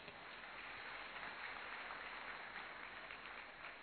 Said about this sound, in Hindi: प्रस्तुत है हम सबके सामने, जोरदार ताली बजाएं।